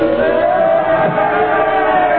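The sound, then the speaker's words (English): A crowd yelling together about Lenin in a sustained, blended roar of many voices, steady and unbroken, somewhat muffled with no individual words standing out. “Crowd, they're yelling something at”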